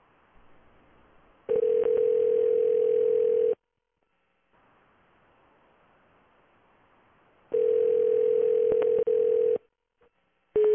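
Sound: telephone dial tone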